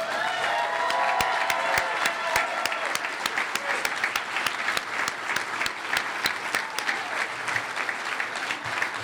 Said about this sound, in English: Please join me in a loving and very heartfelt round of applause for my wife and mother of my four children,